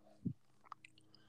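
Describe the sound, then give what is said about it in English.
Wet mouth sounds of someone eating an ice cream cone: a soft squishy bite followed by a few small smacking clicks, quiet and with no talking. “I can hear you slurping on your ice cream cone.”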